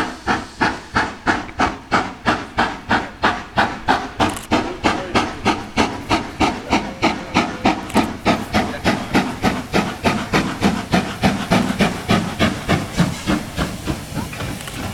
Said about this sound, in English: You can hear the gentle puffing of the train. It's left the viaduct and it's only seconds away from getting here. You can see the steam just rising above it. It's not going at full throttle, but there is steam coming from the funnel.